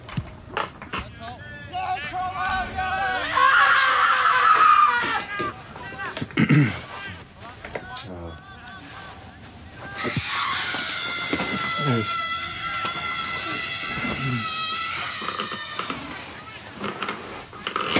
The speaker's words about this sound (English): And I just like to scream because I like it. Once we have the screams in the archive, we try to let them take on lives of their own, the life that they want to lead.